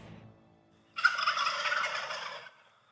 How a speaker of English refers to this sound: That was my cell phone from this morning. Oh. I snuck in the dark, and I got a little close. There were a lot of birds, and they were roosting right above me, and they pitched down, and I mean, it's like, oh gosh, like just chills.